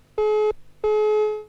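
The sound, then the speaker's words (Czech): A telephone busy tone after a dropped call: two steady electronic beeps, each about a third of a second, repeating at an even pace, clear and fairly loud with no voices. “Tak to asi úplně vypadlo, což mě mrzí.”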